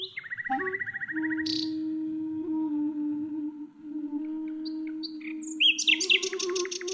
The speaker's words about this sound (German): … spielt live ein Duett mit einer Nachtigall im Gebüsch des Treptower Parks.